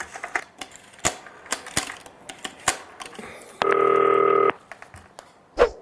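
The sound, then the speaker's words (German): Sharp clicks of buttons being pressed in an irregular rhythm as someone dials a phone to call a person, then a steady electronic telephone tone held for about a second, followed by one last click. No one speaks. “Ich ruf den jetzt mal an. Grünes Telefon.”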